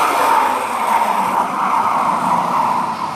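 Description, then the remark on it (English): Steady, loud traffic noise at a highway truck stop in Albury, Australia, drones on without a break, a dense wash of engines and tyre roar from vehicles, with no voices or distinct events standing out. “at this truck stop here in Albury, that's no exception.”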